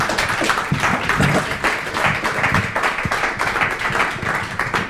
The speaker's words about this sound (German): Ich bitte um einen recht herzlichen Applaus für meine Gäste.